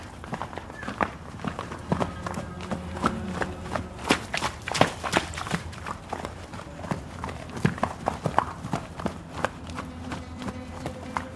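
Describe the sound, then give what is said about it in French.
Hooves of a stallion kept at home pound the ground as it gallops in a circle around people, a fast irregular drumming of sharp thuds, with faint background noise and no speech. “il y a une question que je me suis demandée, parce qu'il se mettait à galoper en cercle autour de vous.”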